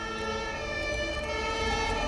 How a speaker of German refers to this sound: Die Feuerwehr kommt! Oh, wie toll! Auch Arthur hat die Sirene gehört und schaut aufgeregt in die Richtung, aus der ihm gerade ein großes rotes Drehleiter-Feuerwehrauto entgegensaust.